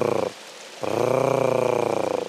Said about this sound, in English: And they make completely different noises. So the male whistles, and that's that eerie whistle. And the female makes a hard case sort of purring noise. She's sort of...